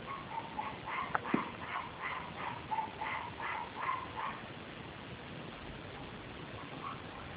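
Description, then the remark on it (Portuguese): Several dogs at a home yip, whimper and bark in a quick, repeated burst for about four seconds, then fade out; the sound is muffled, like dogs heard through a phone line. “De vez em quando tem os cachorros também, é gato, cachorro, galinha.”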